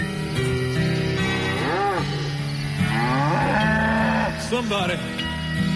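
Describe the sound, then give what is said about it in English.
A voice imitates a cow, giving three long, swooping moos spaced a second or so apart, loud over a steady musical backing. “I'm a werecow. Moo, moo, moo. I'm a werecow.”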